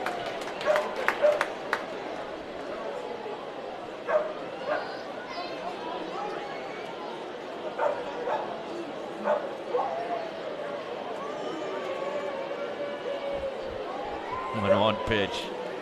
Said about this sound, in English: The dogs letting their voices be heard here in the late innings today.